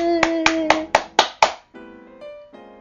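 Six crisp hand claps for those who answered a quiz question correctly land in a steady, quick rhythm over a sustained musical backing, growing sharper toward the end before the claps stop and the soft tones carry on alone.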